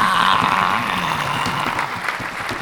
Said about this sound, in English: Round of applause, round of applause, round of applause.